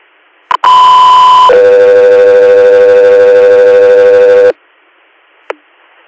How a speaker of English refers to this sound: Fifth Year, stand by for tones.